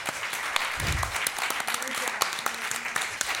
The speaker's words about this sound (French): Je vous laisse les applaudir.